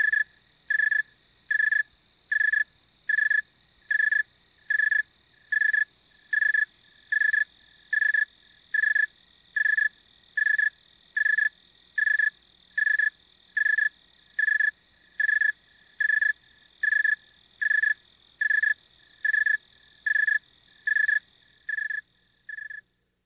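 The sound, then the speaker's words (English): A snowy tree cricket chirps in a steady, evenly spaced rhythm, about one clear, high chirp per second, continuing alone before the last few chirps soften. “In fact, the snowy tree cricket is a living thermometer.”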